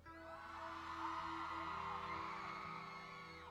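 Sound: women in audience screaming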